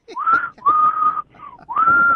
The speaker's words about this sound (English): I also whistle. I whistle loud. I whistle hard.